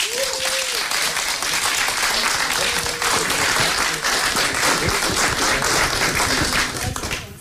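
A crowd at a rap special of the Bottenberger Radiokonzerte applauds loudly and steadily for several seconds as the next rapper is welcomed, a dense wash of clapping with a few whistles or cheers rising briefly above it.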